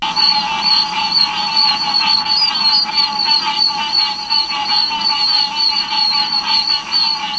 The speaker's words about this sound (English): The call is a series of piercing, high-pitched tones or squeaks, a lot like the peeps of baby chickens. The call is higher pitched and more drawn out than the calls of the spring peepers.